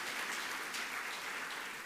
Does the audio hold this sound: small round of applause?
yes